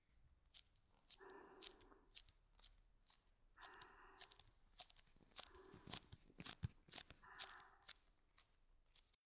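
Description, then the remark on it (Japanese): Crisp plastic crinkling as a tape ball, built from many layers of plastic, is squeezed in the hand, crackly bursts repeating every second or two with sharp ticks between them, no voices, fairly quiet overall. “テープボール。こうやってにぎにぎすると、ビニルミっていうのがすごいでしょ？”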